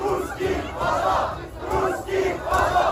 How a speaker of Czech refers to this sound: Protože třeba, když jsem viděl záběry z budapešťského metra, ozývalo se tam Rusové, jděte domů.